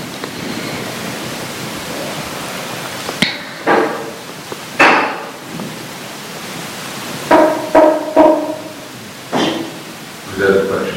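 Someone knocks on a door during a question session of a talk, a series of sharp, hollow raps in uneven clusters over a steady background hiss, some knocks coming in quick pairs or triplets.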